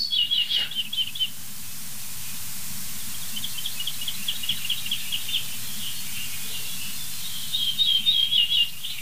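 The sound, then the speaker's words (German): Ortolan bunting song: short series of clear, ringing notes repeated in phrases, moderately high-pitched, with pauses between strophes over a low steady background hum. “Ortolan hieß früher auch Gartenammer. So häufig war dieser Vogel.”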